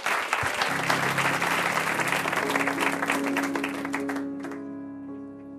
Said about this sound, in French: Je vous demande d'applaudir très fort parce que c'est leur nouveau single